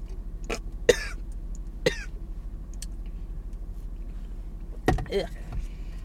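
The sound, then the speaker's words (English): Several harsh coughs and throat-clearing bursts from one person, scattered irregularly over a steady low engine-like hum, with a cluster of rougher hacks near the end. “My coughs could really be a soundtrack.”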